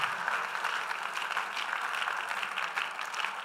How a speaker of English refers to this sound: Oh, give the Lord a clap